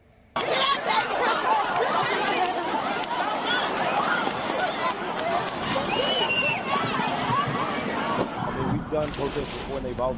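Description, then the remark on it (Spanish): A dense crowd of protesters in panic at about 9 at night in a town centre after bursts of gunfire, with overlapping frantic shouts and screams over the steady rush and scuffle of many people fleeing, loud and continuous throughout after a brief quiet start. “Asimismo, escuchamos los gritos de pánico entre los asistentes, que corrían despavoridos al no saber de dónde procedían los disparos.”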